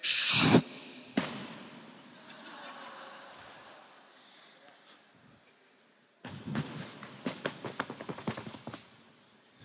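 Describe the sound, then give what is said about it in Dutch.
A few loud thumps at the start, a quiet pause, then a quick run of knocking thuds mimicking a child's footsteps on the floor upstairs at 7 in the morning, fairly loud, with no talking. “Eén paar voetstappen.”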